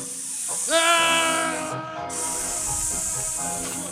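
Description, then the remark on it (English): Helium hisses steadily out of a balloon punctured on a sharp part of a capsule, with a high whining squeal rising in as the gas escapes, loud and continuing for several seconds. “Balloon hit sharp part of your capsule. I leaked the helium.”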